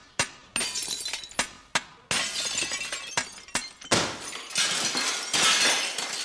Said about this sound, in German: Aha, also gut, wenn's sein muss, dann nehme ich halt die blöden Gläser, so, und dann tue ich da Wasser rein. So, und dann spiele ich drauf und zwar mit einem Hammer.